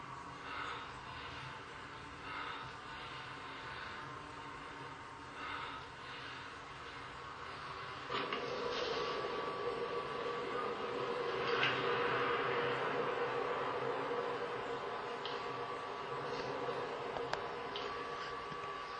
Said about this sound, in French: Des bruits comme des gémissements intenses qui viennent du ciel.